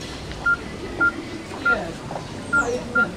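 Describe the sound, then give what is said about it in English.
Five short, evenly pitched keypad beeps as someone dials a missing woman's phone, sounding at a steady, slightly uneven pace, each a brief clean tone, standing clearly above a low background murmur. “Let me call your phone.”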